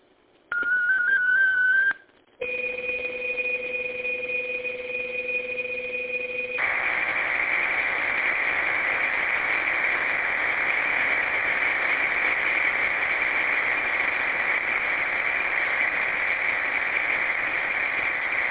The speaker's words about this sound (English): All right, this is a short message, 37 seconds. Stand by for digital traffic. This is KGTC. Traffic is as follows.